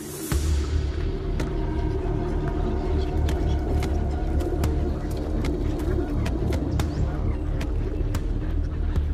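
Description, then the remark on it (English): A flock of pigeons being fed by people at the water's edge in London coos in a steady, low murmur, broken by scattered sharp taps and flutters, with a faint rumble running underneath throughout. “While most pigeon eyes are trained on tasty treats, one pair of eyes is fixed on them.”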